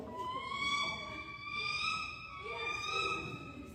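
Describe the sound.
A voice imitates a bald eagle call: a high, sustained, wavering cry held for several seconds, swelling and easing in about three pulses, with nothing else around it.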